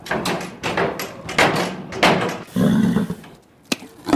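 An agitated horse kicks a wooden stable door again and again, wanting food, the heavy thuds landing at an uneven pace, with a brief rustling scrape before one last sharp knock.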